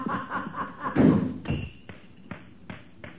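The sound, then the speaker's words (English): A door slams shut with one loud, deep thud, followed by several lighter, evenly spaced knocks that fade over the next couple of seconds. “Did you hear him slam that door?”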